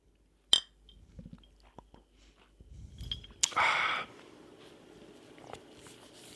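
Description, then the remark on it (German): One bright clink of glasses of a sparkling drink rings out in a toast near the start, followed by soft handling noises and a short rushing sip-like burst; no one speaks. “Ja, Prost. Prost.”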